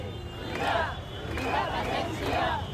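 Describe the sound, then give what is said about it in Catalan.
A crowd of demonstrators at the head of a march in central Barcelona, after a morning of rain, shouting in repeated bursts, three swelling waves of massed voices over a constant rumble of crowd noise. “Malgrat el mal temps, ja hi ha hagut gent a la capçalera preparada, ja se senten els primers crits, entitats socials i partits intenten mantenir el pols al carrer.”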